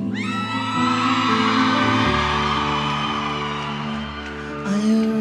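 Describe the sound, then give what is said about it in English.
A large concert crowd screams and whoops together in a loud, sustained roar of overlapping high-pitched voices, holding steady for several seconds and swelling again near the end. “Are you ready, baby? Let me hear you scream.”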